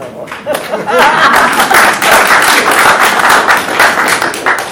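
An audience breaks into steady, loud applause, many hands clapping in a dense, crackling wash that holds for several seconds, with a few voices murmuring underneath.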